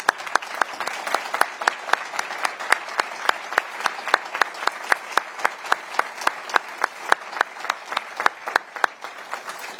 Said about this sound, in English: And is it appropriate, President, to give them a round of applause?